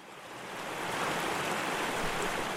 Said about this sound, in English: Picture yourself standing by a creek or a small river flowing through a forest or a glade of trees.